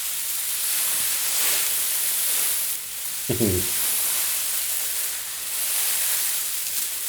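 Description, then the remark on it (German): Material rustles in a steady, airy whoosh, mimicking wind through trees. The soft hiss runs unbroken with gentle swells, and a brief tonal squeak cuts in once midway. “Aber man kann es auch dazu benutzen, dass man einfach so, wenn der Wind so durch die Bäume weht, ne?”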